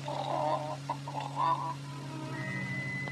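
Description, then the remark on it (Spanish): A few short, nasal squawking calls from a rooster being carried to the henhouse, in quick succession, over a steady low hum; a thin, high tone lingers near the end once the calls stop. “Oye, espera, te ayudo a cargar el gallo. Ha de estar bien pesado.”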